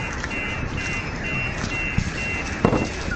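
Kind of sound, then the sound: vehicle, car alarm beeping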